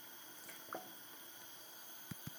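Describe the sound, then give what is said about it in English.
A pot of coconut curry with stock, coconut milk paste and duck simmering quietly over reduced heat, with a few soft, irregular bubble pops breaking the surface against a faint background hiss. No one speaks. “You can hear it there, bubbling away, simmering nicely.”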